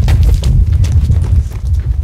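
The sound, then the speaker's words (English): Feet crunch along the floor of an old gold mine tunnel in a steady, repeated rhythm of gritty steps, laid over a constant deep, rumbling background roar. No one speaks. “And you're walking through the black, and all you hear is like the sound of our feet crunching.”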